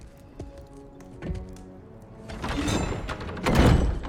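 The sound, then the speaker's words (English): The front door of a cabin is shut: a couple of light knocks and shuffles, then rising rustling movement ending in a solid, fairly loud thud as it closes. “gestures at table and shuts the front door.”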